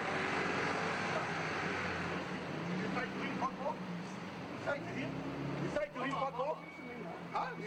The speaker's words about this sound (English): At this point, though, a noisy truck makes it hard to hear.